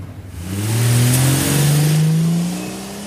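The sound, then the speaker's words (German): A Buick car engine revs hard and accelerates away, loud at first, its rising drone swelling for a couple of seconds before easing off slightly at the end. No voices. “Habt ihr auf das Kennzeichen des Buick geachtet, Kollegen?”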